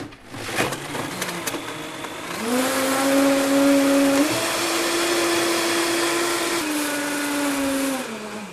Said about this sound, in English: And voila, hemp milk. So the first impression when you stop the blender is that it's quite it's steaming. I suppose that's from the warm water.